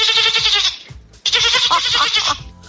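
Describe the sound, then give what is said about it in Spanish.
A person imitates a goat, letting out two long, quavering bleats with a brief pause between them, loud, with no other voices. “A mí siempre se me ha dado muy bien hacer la cabra, quizás porque estoy como una cabra.”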